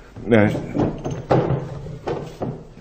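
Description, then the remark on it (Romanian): A short vocal sound, then a desk drawer pulled open to look for carbon paper: a sliding scrape followed by a few wooden knocks and rattles, with the middle thunk the loudest. “Indigo trebuie să fie aici în sertar.”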